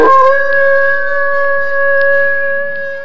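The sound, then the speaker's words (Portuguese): A big wolf, after a pin is stuck into its tail, lets out a loud, sustained howl that holds a steady, tonal pitch for about three seconds, alone with no talking, swelling slightly before tapering at the end. “O lobo grande solta um uivo.”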